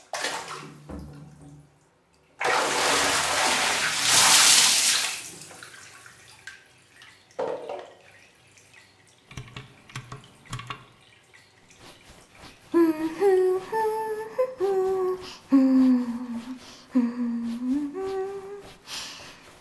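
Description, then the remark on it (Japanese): Bath water gushes loudly for a couple of seconds, then gives way to scattered splashes and gentle sloshing in a tub as someone takes a bath, later joined by a voice humming a tune. “さ、試着はおしまい。お風呂に入らなきゃ。”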